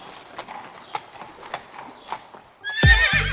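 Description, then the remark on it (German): Horses in a stable munching on hay during the midday break: soft, irregular hoof clops and shuffling, followed near the end by a loud whinny with harmonic tones. “Im Stall mümmeln die Pferde ein bisschen auf ihrem Heu.”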